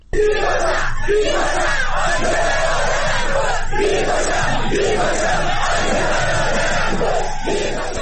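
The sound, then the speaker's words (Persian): A large crowd of protesters in Abadan chants slogans loudly in unison on Sunday evening, halting a state mourning ceremony, voices rising and falling in rhythmic bursts across the whole stretch, dense and unbroken, with no single speaker standing out. “معترضان شامگاه یکشنبه مراسم عزاداری دولتی در آبادان را نیز با سر دادن شعارهای متوقف کرده و مانع از سخنرانی محسن حیدری آل کثیر، نماینده خوزستان در مجلس خبرگان شدند.”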